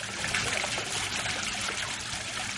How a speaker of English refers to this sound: The sound of water hitting the ground is unusual in the dry sagebrush foothills that surround Taliesin West. But the water comes from a fountain operating on the grounds.